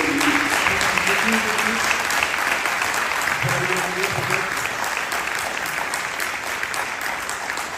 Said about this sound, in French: Merci énormément, je pense qu'on peut l'applaudir fortement.